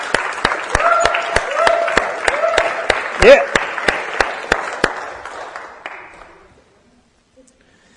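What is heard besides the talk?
audience applause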